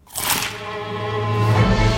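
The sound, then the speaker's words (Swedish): A sharp, crackling crunch bursts out at the start, like teeth biting into a crispy McDonald's McCrispy chicken burger, then gives way to a sustained tonal hum with a low rumble swelling toward the end. “Upptäck det vackra ljudet av McCrispy & Company för endast 89 kronor. En riktigt krispig upplevelse.”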